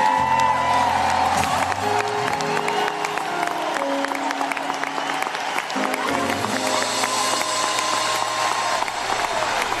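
A large audience applauds and cheers steadily for the full length, a dense wash of clapping with scattered whoops, while sustained music tones linger faintly underneath.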